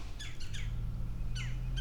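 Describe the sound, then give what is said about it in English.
Several harsh bird squawks and chirps burst out in quick clusters from birds overhead outdoors, agitated-sounding, over a steady low hum and background noise. “Okay, these are birds that are vaguely upset about something, right?”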